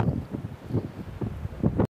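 Strong wind buffets the microphone on a beach, with loud, low rumbling gusts swelling and fading in uneven pulses before cutting off abruptly.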